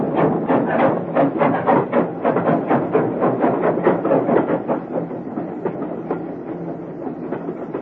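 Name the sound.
train departing a station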